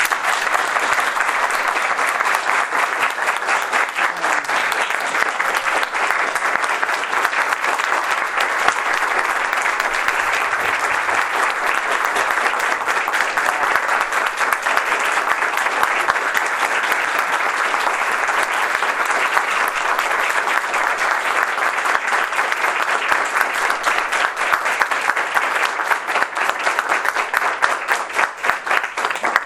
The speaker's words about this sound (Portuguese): Mas eu queria então mais uma vez chamar das pessoas presentes, palmas, para os homenageados.